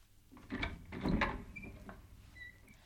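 A door being opened as Khadija opens it for the Prophet Muhammad: a few clunky wooden knocks and rattles, then thin squeaky creaks as it swings, fairly quiet and with no voices.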